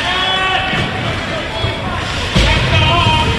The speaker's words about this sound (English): Crowd calling for the net to be off.